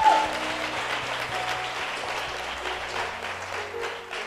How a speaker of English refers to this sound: Can we give a powerful clap offering to God?